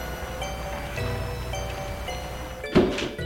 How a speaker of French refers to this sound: La porte s'est refermée derrière elle.